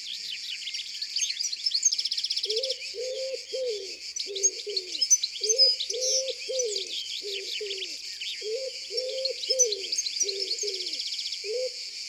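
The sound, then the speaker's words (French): A common wood pigeon coos in steady repeated phrases of low, muffled notes, ending with a stressed final note, over a dense chorus of high chirping and twittering songbirds in the background; no one speaks. “Son chant est un peu sourd, mais il porte loin. C'est toujours pareil. Grou, grou, grou, grou, grou.”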